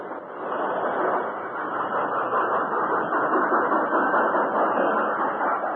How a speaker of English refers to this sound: As the Lone Ranger swung down from the engine cab, the passenger train slowly approached and stopped.